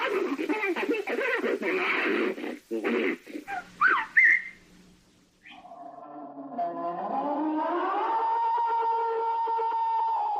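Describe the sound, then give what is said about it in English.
A few seconds of talking give way to a brief high whistle, then a long, steady, drawn-out whistling call in the woods that slowly rises in pitch and carries on alone until the end. “Grunts, whistles, snarls, chirps, howls.”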